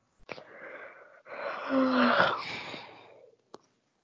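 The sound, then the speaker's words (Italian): Someone yawns into an open microphone during a council meeting: a long, drawn-out yawn rises and swells through a breathy, wheezing middle before trailing off, with brief clicks at the start and end and no talking. “Chi è che sta sbadigliando? Togliete il microfono, per favore.”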